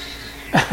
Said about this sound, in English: Sorry, the cats are fighting, and Twiglet got weird about it. But no, he's still playing. He wants to play.